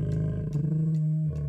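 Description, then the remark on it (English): A wolf growls loudly, a deep sustained snarl lasting about a second and a half, with rough bursts of breath rising through it and no talking. “Wolf!”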